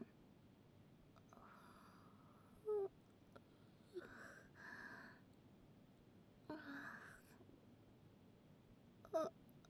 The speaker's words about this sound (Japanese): ごめん、あくび出ちゃった。なんだか眠くなってきちゃった。少しだけ寝ちゃおうかな。やば、あくび止まんない。